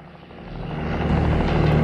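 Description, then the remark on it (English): A military helicopter flies down a long forest valley toward a house, its rotor drone swelling steadily louder as it approaches, a dense low-pitched rumble with a throbbing beat filling the air, no voices present. “A military helicopter zooms towards them down the valley.”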